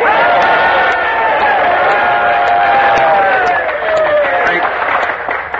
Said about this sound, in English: Liberates of Devil's Island, you are waiting to cheer a man who has come back to this colony with an important announcement for all of us. Well, cheer, men.